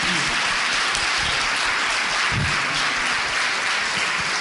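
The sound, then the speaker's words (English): A dense burst of applause from a women's sports team, steady hissing claps throughout with no pauses, loud and sustained like rain on a surface; no one speaks. “We'll excuse the team clapping and proceed, though, with a discussion about women in society.”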